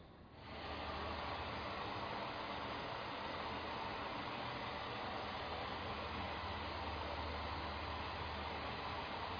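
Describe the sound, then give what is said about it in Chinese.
A waterfall roars in a steady, unbroken rush of white noise that swells in within the first half second and then holds at an even level to the end, with no voices. “他听见的是瀑布发声，因为考虑到大家耳朵的缘故，我没有把这个瀑布的声音放得很大，不然的话可能我们会受不了这个声音。”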